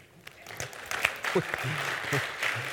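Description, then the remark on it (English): Scattered, uneven clapping from a small audience, thanking those who helped decorate for Christmas. It is a handful of sharp claps rather than full applause, with voices talking and murmuring underneath throughout. “We got to work on this whole permission to clap thing because a few people are like, can I?”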